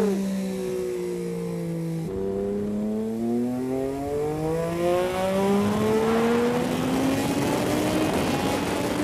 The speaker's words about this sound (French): Oh, bah, écoutez ça, alors. C'est le moteur Triumph.